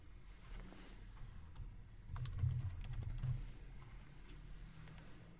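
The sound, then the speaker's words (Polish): Quiet, steady tapping on a computer keyboard as a document's name is typed while saving it to OneDrive, a run of clicks that thickens for about a second in the middle before easing back, with a low hum underneath and no voices. “W tym momencie zapisuję również nazwę dokumentu.”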